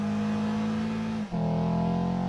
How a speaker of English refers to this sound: Now switch to sport mode. It offers quicker response and more agility. It also enhances the natural sound of the engine.